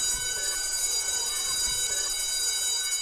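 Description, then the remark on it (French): A school bell rings loudly and without pause for about three seconds, a bright, steady metallic jangle with a dense, shrill high tone and no voices. “La cloche a sonné, la cloche a sonné.”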